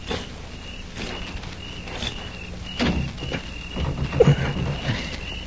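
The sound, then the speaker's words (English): A bolted door is rattled and jiggled several times as someone tries to force it open, with a few sharper knocks and thumps near the end over a low background hum. “I'm going to try the door.”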